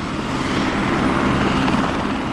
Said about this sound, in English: Chopper tour operators say business has taken off in the past few years, with nearly 60,000 tours given in just the past year. If you only count the hours they're allowed to fly, that's an average of one chopper every 3.5 minutes.